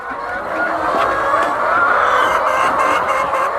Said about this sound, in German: Hunderte Hühner picken Futter aus großen Trögen.